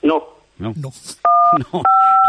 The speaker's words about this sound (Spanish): Pues digo, ten cuidado, te están pinchando ya el teléfono, José María. Digo, que estaba sonando ahí un pitido ahí de fondo.